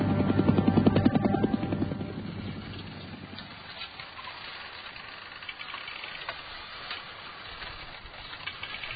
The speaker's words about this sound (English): First helicopters appeared over My Lai at 7:35 a.m. There was no hostile fire.